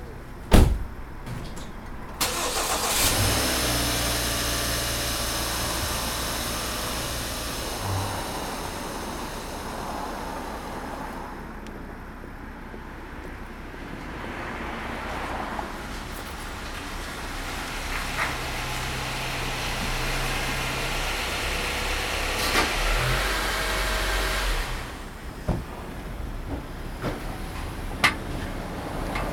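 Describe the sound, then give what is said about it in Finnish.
A car door thuds shut, then an engine starts and a car drives to an address in town with a steady rumbling hum for a long stretch before slowing, with a few clunks near the end. “Hypätkää kyytiin.”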